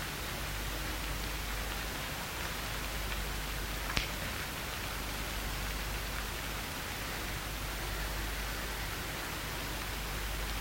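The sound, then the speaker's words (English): Steady, dense hiss of rain falling continuously in the morning, even and moderately loud throughout, with a single sharper tap partway through and no voices. “Accept this morning, this rain, with all the restrictions we will have today.”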